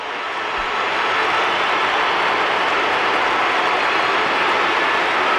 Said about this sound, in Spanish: La verdad es que no se distingue si hay aplausos o pitos. No, aplausísimos, ¿eh? Ahí no. Sí, se pone de pie la gente para despedir a Vinicius. Son aplausos.